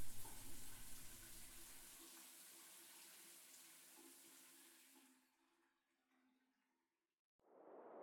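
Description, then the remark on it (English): Shower water runs in a steady hiss for about five seconds, then tapers off and stops, leaving near silence before a brief new noise at the end. “I know all you do is take a shower, but you look so much better than when you first came in.”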